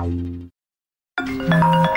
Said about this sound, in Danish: Det her er lyden af en kunde, der ringer forgæves, og som nu finder nummeret på en konkurrent.